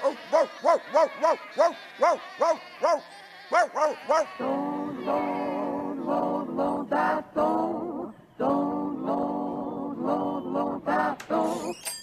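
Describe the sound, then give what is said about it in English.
A rapid run of short, wavering lamb bleats, fairly loud, as lambs run in through an opened gate into a field, gives way to a denser, nearly continuous chorus of overlapping bleating that carries on to the end. “He opens the gate and the lambs run in.”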